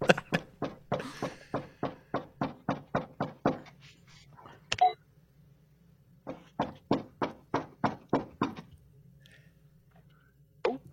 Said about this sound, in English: So he's approaching the door. He's trying the door handle, like trying to actually get in there. Trying to break in.